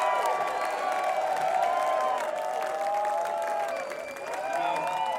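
A concert crowd at the Eclipse Theater applauds and cheers steadily for several seconds for the band, a dense wash of clapping with shouts and high whoops rising over it, dipping briefly near the end before swelling again.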